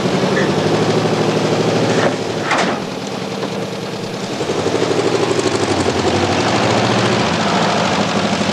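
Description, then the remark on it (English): A loud helicopter drones steadily with a rapid rhythmic rotor chop, briefly dipping around the middle before surging back at full strength. No one speaks. “Who's that helicopter, man?”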